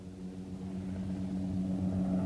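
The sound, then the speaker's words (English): A helicopter's low, droning engine hum with a steady pulsing rotor throb, swelling gradually louder over a couple of seconds, with no voices. “Below, Lewis hears the helicopter approaching.”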